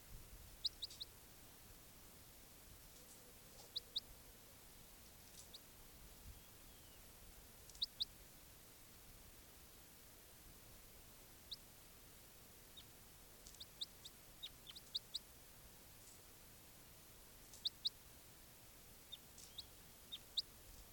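bird, bird calls

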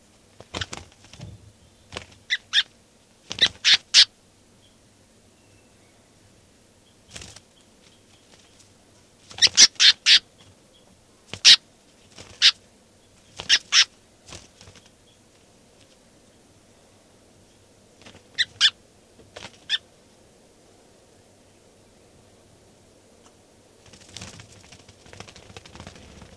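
bird, bird calling

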